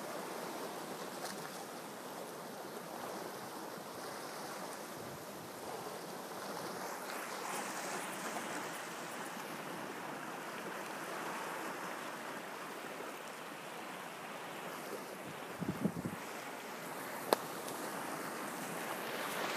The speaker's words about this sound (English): And as you hear the waves breaking into the rocks, you're going deeper and deeper.